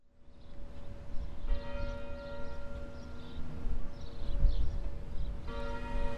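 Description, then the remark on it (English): Clock tower bells on the University of Detroit Mercy campus in Detroit, Michigan, a tower built to honor Michiganders who died serving in World War I, ring with long, sustained metallic tones, swelling with fresh strikes at two points, over a steady low rumbling background. No one speaks. “Jack chose the university's beautiful clock tower for this visit, Mark.”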